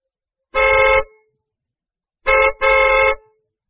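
A car horn honks loudly: one half-second blast, a pause, then a quick double honk with the second held longer. No voices or engine noise accompany it.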